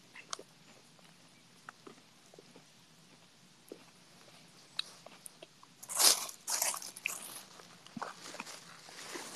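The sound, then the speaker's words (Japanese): Crunchy bites into a new Crunky milk chocolate bar followed by chewing, with sharp crackling snaps clustered around the middle and quieter intermittent crunches throughout; no one speaks. “なんかクランキーのね、これ何、悪魔的にうまい、クランキー史上最も贅沢にカカオを使用したミルクチョコレートみたいな書いてる、なんかね新しいクランキー出てて買ったんだけど、まあ正直何が違うのかは全然わかんないけど、うまいわこれ。”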